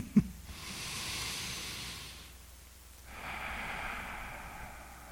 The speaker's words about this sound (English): She just started to tread water, and she invited me to place my hands on her shoulders, and she told me to take a deep breath. Yeah, try one of those deep breaths. Always good to breathe.